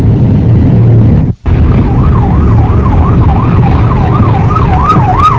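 Dense street traffic in a jam at nine o'clock rumbles steadily while a wailing siren rises and falls repeatedly, growing slightly more prominent; a brief dropout interrupts the noise near the start.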